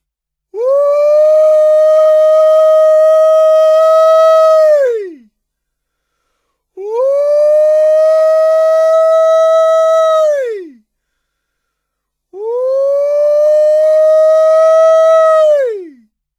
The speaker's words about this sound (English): This is the word used to describe the exultant, high-pitched, screaming yell sounded by a person who has seen the fox. Anyone may holler a fox. The intention of sounding a holler is to inform the huntsman that a fox has been seen.